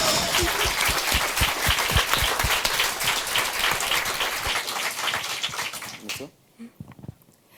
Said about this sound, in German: Nochmal einen Applaus für die Gruppe erstmal, also für uns. Hey.